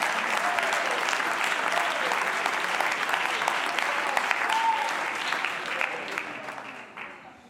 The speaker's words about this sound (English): Oh, would you clap your hands and thank the Lord?